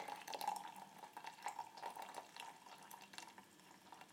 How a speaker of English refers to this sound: And we're going to pour 250 milliliters. So I am pouring. God, I'm so used to doing a circular movement, gently pouring over these dried cherries.